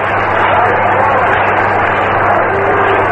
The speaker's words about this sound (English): Manager Mel Ott of the New York Giants is coming up. He's going to pinch hit for Walter. Ott is getting a great hand from the crowd. Listen.